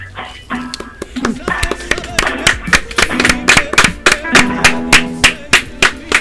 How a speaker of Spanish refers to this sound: Un aplauso cerrado acá en el estudio.